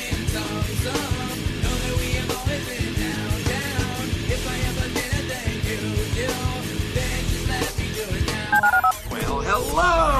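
A quick run of touch-tone dialing beeps sounds over a loud, busy music bed, followed near the end by warbling, sweeping electronic tones, in a promo for the ESPN 97.5 listener call-in line.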